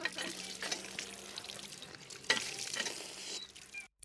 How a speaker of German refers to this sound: Und draußen sprudelt auch das frische Wasser der alten Heilquelle wieder. Und jetzt sind wir am frischen Kenzer Wasser.